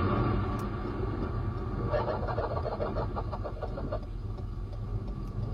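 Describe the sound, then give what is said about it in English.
A deep, continuous rumble of thunder rolls throughout, loud, while a burst of rhythmic, evil-sounding laughter cackles over it in the middle before fading back into the roar. “This sound effect was just labeled as thunder, not thunder plus evil laughing.”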